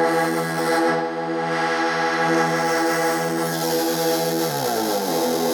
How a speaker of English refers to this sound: And... distortion.